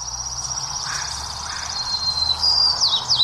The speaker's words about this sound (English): So that's the song. Yeah. I mean, I would guess the white-crowned sparrow. That's what it is, yeah.